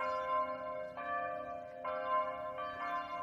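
Church bells ring in overlapping, sustained peals, with new strikes arriving about every second and their rich harmonic tones lingering and blending together at a steady moderate volume.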